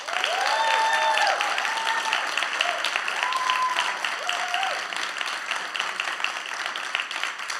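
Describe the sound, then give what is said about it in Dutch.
Sustained audience applause for three people being honoured fills the whole stretch, a dense steady wash of many hands clapping, with a few whoops and cheering voices rising over it early on before it gradually thins. “En deze 3 geweldige gasten, die mag je, als ik hun naam heb genoemd, zo een vet applaus geven.”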